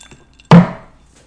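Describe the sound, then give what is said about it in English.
A single sharp clink of glasses touching in a toast, fairly loud, with a short ringing decay that fades within half a second. No one speaks. “So, cheers to that.”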